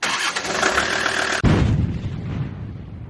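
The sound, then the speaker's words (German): A just-repaired car engine cranks with a steady whirring starter for about a second and a half, then catches and roars to life before settling into a rumbling idle, loud. “Starten wir den Wagen”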